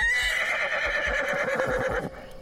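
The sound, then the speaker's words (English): A horse lets out a loud, high-pitched screaming neigh lasting about two seconds, shrill and sustained before it cuts off, with no one speaking. “The great beast cries out in a high-pitched wail that sounds like a scream.”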